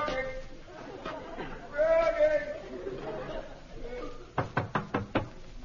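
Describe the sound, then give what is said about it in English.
Five quick, evenly spaced knocks on a door ring out sharp near the end, after a stretch of voices talking in the background. “Sounded like a knock at the door.”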